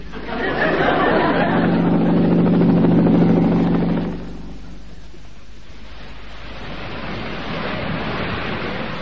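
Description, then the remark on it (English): A helicopter descends to land on a rig, droning loudly with a steady rotor and engine roar, then drops off sharply partway through, leaving a rushing wind-and-sea wash behind. “Fasten your belts, then. I'm taking her down.”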